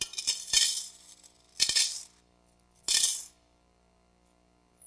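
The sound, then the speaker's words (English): Three bright metallic clatters of coins dropping onto an offering plate passed around during a benevolence offering at church, spaced about a second apart, each ringing briefly before fading, with a faint voice murmuring at the start. “So can you just give me some coins? And so they get the coins, and when the plate's passed around, the plate comes by them,”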